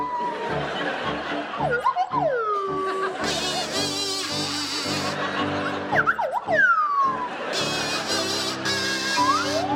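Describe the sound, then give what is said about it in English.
Rob Brydon on a buzzy kazoo and Richard Osman on a sliding swanee whistle play the theme from The Good, the Bad and the Ugly together, with swooping pitch glides rising and falling between the kazoo's loud, rhythmic bursts. “Richard and Rob, I'd like you to provide us with a rendition of the theme from The Good, the Bad and the Ugly to feature Rob Brydon on the kazoo and Richard Osman on the Swanee Whistle.”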